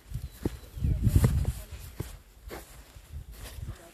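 Footsteps walking and stomping on grass: soft, rustling thuds at an uneven pace, with a heavier burst of stomps early on before the steps settle into scattered, quieter footfalls.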